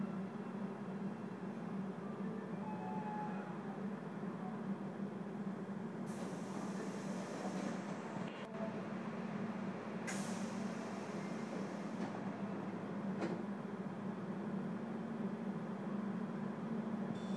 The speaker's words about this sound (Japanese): We will be stopping at 高井田。 Station number C22. Passengers can transfer hereTo the JR line. The doors on the right side will open. Please be careful of the train doors.